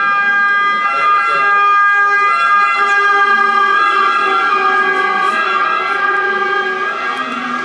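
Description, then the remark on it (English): A loud emergency vehicle siren wails steadily throughout on a street in Turin, Italy, its sustained tones holding over faint street noise and a passing motor. “That siren, that's Torino.”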